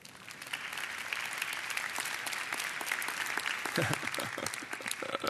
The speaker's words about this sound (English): Nobody's really sure whether to clap or not.